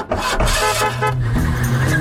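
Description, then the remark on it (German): An old car's engine chugs loudly while a brassy horn honks repeatedly over it, with no voices. “So sind wir früher Auto gefahren.”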